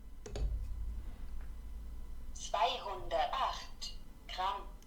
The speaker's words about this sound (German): Ich werde die Küchenwaage jetzt mal kurz anschmeißen. Hallo. Nullrückstellung. So, erstmal begrüßt man einen freundlichen Hallo und dann sagt sie Nullrückstellung an. Ich lege jetzt mal zum Beispiel mein Handy auf diese Waage.